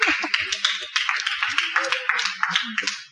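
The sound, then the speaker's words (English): A crowd claps steadily for about three seconds, a dense, fairly loud patter of many hands with a few scattered voices mixed in, fading slightly at the end. “Please clap for him.”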